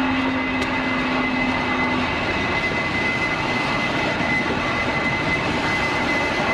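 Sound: jet aircraft engines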